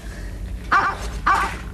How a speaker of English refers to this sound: Do you hear something? Yes, what was that? It sounded like a dog barking. Sounded like a dog barking right here. Yeah. A dog? A Springer Spaniel.